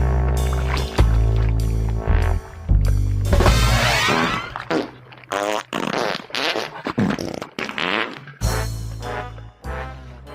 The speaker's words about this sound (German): einzelne musikalische Akzente, die werden dann einfach durch Furzgeräusche ersetzt in dem Moment.